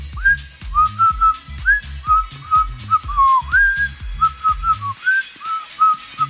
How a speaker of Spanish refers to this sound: Estás así, formado, cantando. Es más, está chiflando de felicidad.